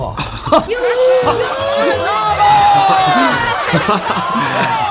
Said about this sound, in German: Doch als das wütende Knurren des Ungeheuers verstummt war und das Licht wieder heller wurde, brach tobender Beifall aus.